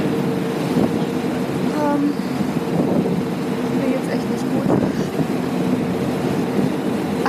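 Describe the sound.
Steady engine drone and rushing wind noise of a boat out on open water, constant and fairly loud throughout, with faint muffled voices now and then.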